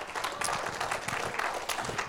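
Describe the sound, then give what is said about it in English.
A crowd claps steadily, many hands making a dense, continuous patter of applause at moderate volume with no voices over it. “Somebody clap your hands for a second.”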